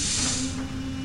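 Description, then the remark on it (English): A video game door, unlocked after a battery item is used, slides open with the enter key, giving a loud, steady pneumatic hiss and a low mechanical hum beneath it, lasting about a second with no voices. “That makes the battery used, so we can now open the door with the enter key.”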